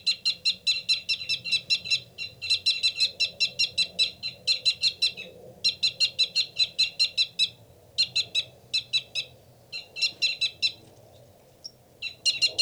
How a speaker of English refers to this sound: That loud, rapid one is the male. A fight call from the male.